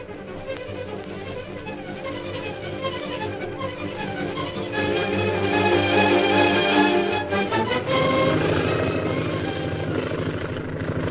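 A propeller plane piloted by Derek Bluger roars in from the hill in a steady, throbbing drone, swelling louder midway as it sweeps overhead, its pitch shifting as it circles for a landing, then easing slightly. No voices.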